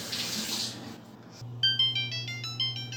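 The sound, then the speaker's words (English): A kitchen oven timer goes off while something bakes at 500 degrees, sounding a quick run of high, bright electronic beeps in a repeating pattern over a low steady hum, after a short burst of hissing like running water. “Okay, well, there's the timer.”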